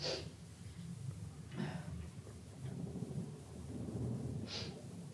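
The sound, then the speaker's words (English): Three short, airy nasal sniffs from a person with a cold coming on, spaced irregularly a second or more apart, sit over a steady low rumbling background noise. Nobody speaks. “Why don't you blow your nose and get it over with?”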